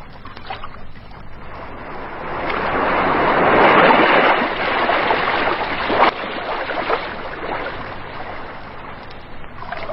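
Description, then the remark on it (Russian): Calm sea water sloshes and splashes steadily against the hulls of boats at night, a continuous wash that swells in the middle with a few sharper slaps, no voices present. “Оно дышало влажным соленым ароматом и ласково звучало, плескаясь о борта судов”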